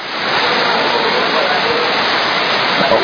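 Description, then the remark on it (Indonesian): Dense, steady roar of heavy rain pouring down, loud, a constant hiss that fills the whole clip without letting up. “Kamu mau ke sana hujan kencang begini, baik-baik atau mau nunggu?”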